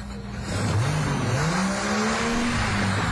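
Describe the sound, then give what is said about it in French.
A car engine revs, its pitch sliding upward then holding steady in a loud, continuous drone for a few seconds, with no voices present. “Saleté de voiture, merde!”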